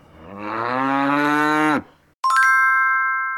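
A cow on southern Öland, Sweden, lets out one long, loud moo lasting nearly two seconds, followed after a short pause by a bright ringing chime that sustains to the end.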